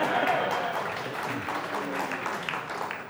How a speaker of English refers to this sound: Again, you're clapping.